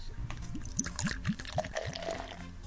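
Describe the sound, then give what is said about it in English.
Beer glugs steadily into a glass, a rhythmic series of gurgles with rising bubbly pitch and a fizzy splash, heard alone with no talking. “Let me pour some in my glass here.”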